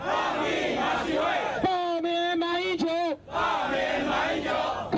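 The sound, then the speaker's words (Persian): A large crowd at a protest march in Taipei, Taiwan, against a meeting between the presidents of China and Taiwan chants loudly in unison, voices swelling and falling in rhythmic waves, with one sustained shout held steady in the middle before the massed chanting resumes. “سیاستمداران مخالف حکومت تایوان در مورد مذاکرات بین رؤسای جمهوری چین و تایوان از قبل نگرانیشان را اظهار کرده و راهپیمایی ها در اعتراض به این ملاقات در تایپه پایتخت تایوان آغاز شده است.”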